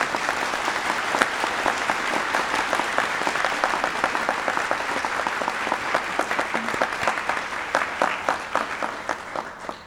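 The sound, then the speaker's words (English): An audience at a formal Academy service claps steadily for about ten seconds to welcome new students, a dense, even patter of many hands that holds a consistent moderate level before thinning slightly at the very end, with no voices over it. “Let's offer them another warm round of applause.”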